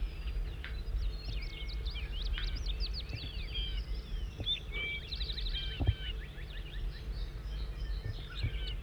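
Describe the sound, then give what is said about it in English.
A bird, recorded as bird 5-9, sings a rapid, continuous series of varied high chirps and warbles over a steady low rumble, with no pauses and one brief soft thump midway. “Start recording bird 5-9 in song.”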